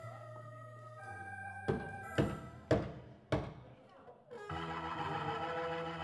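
Four firm, evenly spaced knocks on the wooden door of a manor in the Morvan on a foul evening, set against a low sustained musical drone that swells fuller just after the last knock.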